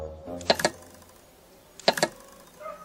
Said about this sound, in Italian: Ecco, adesso devo aspettare di sentire i tre colpettini. Però attenti, che c'è la dinamite qui, Non li sento i tre puntini.